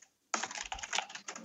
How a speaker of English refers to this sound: I'm just recording your furious typing.